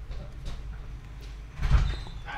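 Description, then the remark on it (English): A door slides or swings open with a scraping, rumbling rush about halfway through, over a low steady background hum. No voices are heard. “Someone's at the door.”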